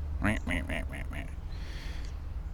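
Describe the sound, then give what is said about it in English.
A duck down in a ravine quacks about five times in a quick, evenly spaced series, fairly clear, over a steady low outdoor rumble that continues after the calls stop. “I can hear a duck down here in the ravine.”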